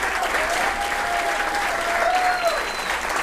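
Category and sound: crowd, concert audience applauding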